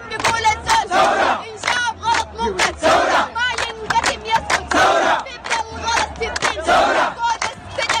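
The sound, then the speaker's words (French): A protest crowd in front of the army and intelligence services headquarters chants in loud, rhythmic call-and-response bursts about once a second, while a woman dressed entirely in white, standing on a car, sings lines between the crowd's answering shouts. “Or, lundi, ça manifestait devant le QG de l'armée et des services de renseignement.”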